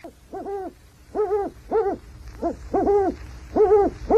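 An eagle owl hoots over and over, about seven rounded, slightly wavering calls in quick, steady succession, loud, with no voices.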